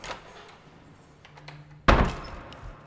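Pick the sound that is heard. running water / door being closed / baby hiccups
door being closed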